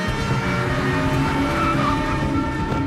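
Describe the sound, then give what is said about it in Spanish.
Car engines rumble steadily and loudly, with a faint tire squeal rising briefly over the continuous motor noise as the cars reverse. No one speaks. “Echad los coches para atrás.”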